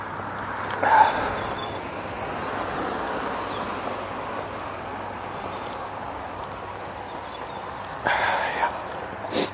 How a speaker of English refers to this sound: So, of course, my eyes are running, which means my nose is running, which means lots of sniffing. Because I'm just wearing a windbreaker today, which doesn't have my handkerchief in it.